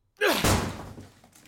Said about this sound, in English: I'm kicking this fucking door down, pal.